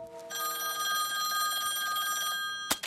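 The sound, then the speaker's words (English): A telephone rings with a bright, steady trilling tone for a couple of seconds as a call is placed, then stops abruptly with a sharp click as the receiver is picked up. No one speaks. “I need to make a phone call.”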